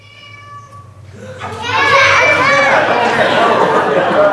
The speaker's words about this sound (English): That's right, a cat. Exactly right.